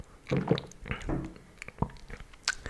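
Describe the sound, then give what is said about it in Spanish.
Quiet mouth sounds of someone sipping and gulping water: a few wet swallows and soft clicks spread over a couple of seconds, with no talking. “Ese trago de agua suena como que estás pensándolo muy bien.”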